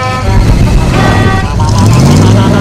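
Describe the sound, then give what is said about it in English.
A loud van engine roars in and revs higher as it accelerates, its pitch climbing steadily, with a horn-like tone and a busy jumble of voices underneath. “van bursts in.”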